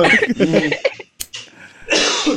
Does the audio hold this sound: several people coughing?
yes